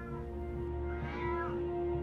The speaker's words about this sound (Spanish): Escuchás el maullido del gato desde el piso del sótano.